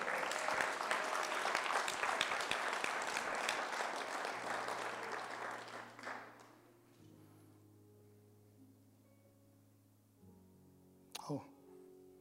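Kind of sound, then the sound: crowd, audience clapping hands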